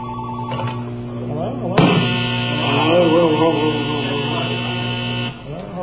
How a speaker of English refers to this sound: Okay, this phone calls that phone.